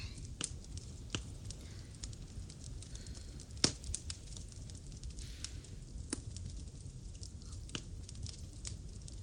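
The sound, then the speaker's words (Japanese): A campfire with marshmallows being roasted over it: a steady low rumble with scattered sharp pops and snaps at irregular intervals as the fire crackles, with no voices. “やっぱり焚き火といえば焼きマシュマロだよね。”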